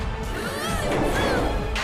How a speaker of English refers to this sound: Demetra thrashes the mecha and body slams it hard.